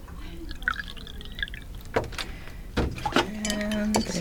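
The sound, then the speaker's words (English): Distilled water poured into a neti pot holding a couple scoops of salt: a few light clinks and drips, then a steady trickle whose tone rises as the small vessel fills. “I usually do a couple scoops of salt in there. Distilled water. I just pour that in.”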